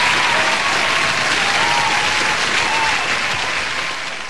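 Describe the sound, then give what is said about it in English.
A crowd claps steadily in dense, sustained, loud applause, fading slightly at the end. “For that, we should be applauding you.”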